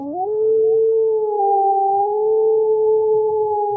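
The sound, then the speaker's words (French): A wolf howls once, a long, loud cry that swoops upward at the start and then holds a steady, drawn-out pitch for several seconds, with no voices around it. “Pendant que Zeus regagnait l'Olympe, Lycaon, devenu un loup, hurla la lune.”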